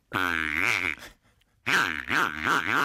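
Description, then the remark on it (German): A squeaker taken out of a broken squeaky toy pig sounds two long, nasal, honking squeals with a short pause between. The pitch wobbles up and down, and the second squeal is longer and more warbling. “Da habe ich so ein kleines Gerät, was in so einem Quietschschwein drin war, und das Schwein ist kaputt gegangen.”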